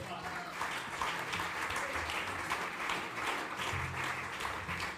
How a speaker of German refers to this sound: Großen Applaus bitte